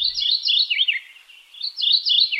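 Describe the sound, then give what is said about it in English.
A mourning warbler sings clear, bright warbled phrases, repeated twice in quick succession with a short dip between them, alone with no voices. “So we birders are doomed to hear that same red-tailed hawk scream every time they show a bald eagle, and that same inappropriate morning warbler song every time a commercial wants to convey a suburban atmosphere.”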